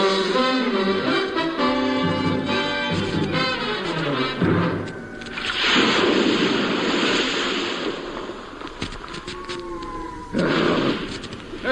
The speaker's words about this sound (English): Oh, I've never had it as bad as this before. Oh, dear. Oh, the wind must be 40 knots at least.